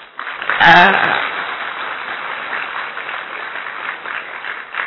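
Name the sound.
audience clapping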